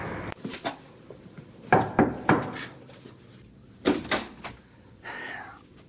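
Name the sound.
pounding on a door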